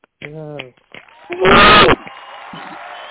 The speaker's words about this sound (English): Can y'all join me in giving them a round of applause, please?